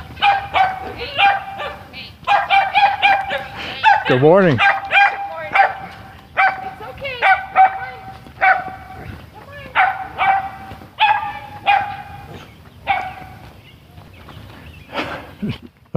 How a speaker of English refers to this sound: The dog is taking great exception to me. It's a little, I want to call it a Sheltie. It's a little collie looking dog. It's about 2.5 times bigger than a Chihuahua.